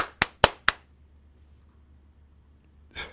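A man claps his hands: three sharp, evenly spaced hand claps ring out in quick succession, followed by a long quiet pause and then a softer, rustling burst at the end. No one speaks.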